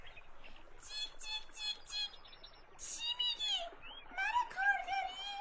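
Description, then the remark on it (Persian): Quick, high chirps repeat in short bursts, with sweeping tweets and trills between them, a sparrow calling busily. “آی آی گنجشک، گنجشک خوش صدا، بیا پایین‌تر، میخوایم با اونا گپ بزنم.”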